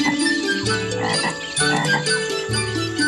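Frogs croak loudly in a dense, continuous chorus, low throaty calls overlapping and shifting in pitch for the whole stretch, with no talking.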